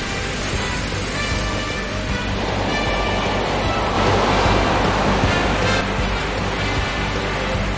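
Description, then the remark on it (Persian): Heavy ocean surf surges up against a mountainside, churning and roaring continuously, a dense wash of crashing water with a swell building around the middle, loud with no voices. “این اقیانوس واقعا از کوه داره میره بالا.”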